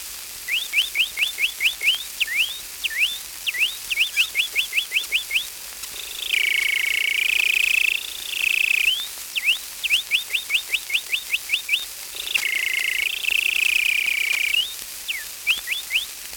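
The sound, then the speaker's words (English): A person whistles an imitation of canary song: bursts of quick, rising chirps alternate with two longer, rolling trills, all clear with no talking. “The canary bird.”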